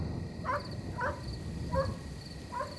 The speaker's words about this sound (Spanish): Esa misma tarde, cuando sus padres se fueron, su pequeño perro comenzó a ladrar conforme caía la noche.